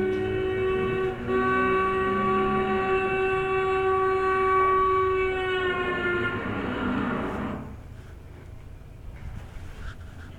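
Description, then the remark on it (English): A loud, sustained train horn holds a steady chord, then slides down in pitch as it passes with a clear Doppler drop. The horn cuts off, leaving the rumble of the rolling train. “let's listen to the Doppler effect.”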